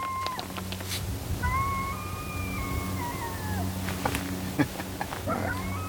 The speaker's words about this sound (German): Ein Kojote heult.